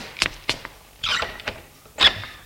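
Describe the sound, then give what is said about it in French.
A woman opens a door on the ground floor: a few sharp latch clicks and knocks, then two short creaking squeaks from the hinge, with no voices. “Au rez-de-chaussée, elle ouvre une porte.”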